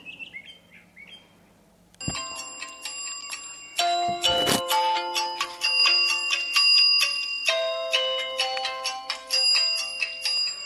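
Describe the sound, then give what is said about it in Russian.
A few faint chirps of birds singing in the early morning, then an alarm clock starts ringing at 5 o'clock: a loud, bright electronic melody of repeating high-pitched tones that plays without pause to the end. “О, зазвонил будильник.”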